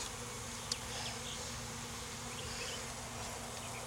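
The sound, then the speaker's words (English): A dense, steady drone of many honeybees buzzing in an opened hive box (a honey super) during a hive inspection, a continuous hum filling the space with one brief click partway through. No voices are heard. “There's a lot of bees in here.”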